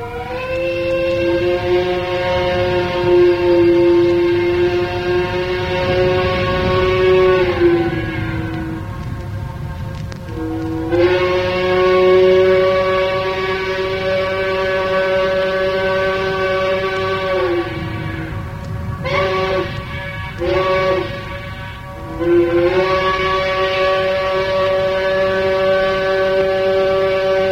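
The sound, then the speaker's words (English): The surviving whistle of the Iroquois, a towboat built by the Cincinnati District U.S. Engineers about 1912-1916, sounds long, steady, deep multi-tone blasts, each sagging slightly in pitch as it ends, with a few short broken toots before a final long blast, echoing off a high hill across the Ohio River. “Echo is really a part of hearing a steamboat whistle.”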